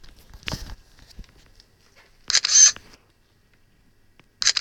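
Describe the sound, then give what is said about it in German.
A camera shutter of a text-reading device clicks sharply twice as it photographs a bottle of dishwashing liquid in a kitchen, each a crisp mechanical snap with a bright high-pitched burst, separated by about two seconds of near silence, preceded by faint handling noises. “Schnelles Lesen. Kamera bereit.”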